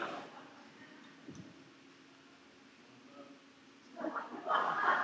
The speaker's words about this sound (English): But before we do that, I'm going to take a sip of water. So if y'all want to take a sip with me, go for it.